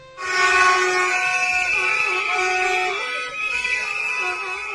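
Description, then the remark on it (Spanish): A dense chorus of car horns blares continuously during a protest in the centre of Pontevedra on a Wednesday afternoon, against the closure of the Rías do Sur complex; many overlapping sustained honks layered together, loud and steady with slight shifts in pitch as individual horns start and stop. “Este sonido que escucháis, estas pitadas, estas bocinas, todo se produjo en la tarde de ayer.”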